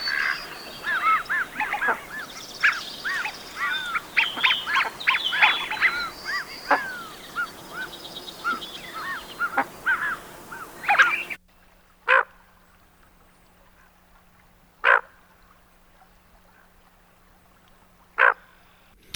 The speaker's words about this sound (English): And the final bird in our marine forecast is the ringed-necked duck. Saw one of these down at Deer Lake the other day, a gorgeous bird.